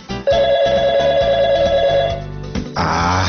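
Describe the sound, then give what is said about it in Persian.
A telephone rings again with a steady, loud electronic tone for about two seconds, then stops, followed by a burst of rushing noise. No one speaks. “ای بابا، باز دوباره این زنگ زد. ببین این تلفن رو بگیر، بگو بابام خونه نیست.”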